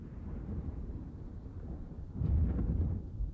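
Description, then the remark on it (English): Low, continuous rumbling like far-off thunder, steady at first and then swelling louder for a moment before the end, with no voices present. “The sound of distant thunder.”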